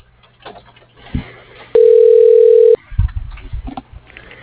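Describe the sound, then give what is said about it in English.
A single steady telephone hold tone on a call to the Deepwater Corrosion phone line, a loud mid-pitched beep lasting about a second, set against faint, muffled phone-line noise and rustling before and after. “Please hold a moment.”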